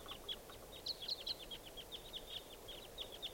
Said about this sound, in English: Both birds here, as other wild birds approach. There they go, there's two. They're joining some other wild birds around somewhere.